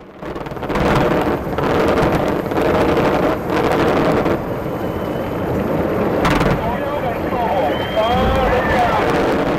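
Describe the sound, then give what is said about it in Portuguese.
Fireworks forming a rainbow that an artist created with gunpowder explosions, going off in a continuous rumbling roar, with several sharper bursts cracking out over the din and rising whistles and crowd voices mixed in toward the end. “Esses sons que você está ouvindo são de um arco-íris que ele criou com fogos de artifício.”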